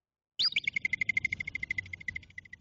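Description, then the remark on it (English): A North American groundhog (woodchuck or whistle pig) gives a sharp, high whistle that drops in pitch, then runs straight into a rapid, steady series of shrill whistled notes, about ten per second, fading slightly over a low rumble. “So to end the episode, I think I'll play you some lovely groundhog / woodchuck / whistle pig sounds, so you will see why they are also called whistle pigs.”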